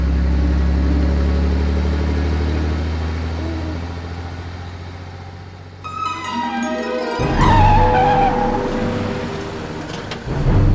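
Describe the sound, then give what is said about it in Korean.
A car engine hums with a low, steady drone as it drives along a dark road with a bicycle, then revs up with a rising whine partway through as it pulls away. It's fairly loud, with no voices. “자동차는 자전거와 둘이서 캄캄한 길을 따라 부릉부릉.”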